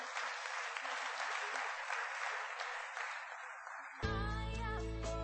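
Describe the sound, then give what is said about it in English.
An audience claps hands in a dense, steady burst of applause for about four seconds, then it gives way abruptly to loud music with sustained, organ-like tones. “Clap your hands and be on.”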